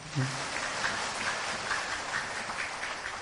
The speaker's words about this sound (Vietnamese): Quý vị trả lời rất hay, cho Tràng pháo tay nữa đi.